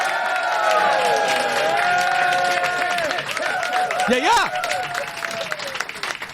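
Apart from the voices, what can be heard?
audience applauding and cheering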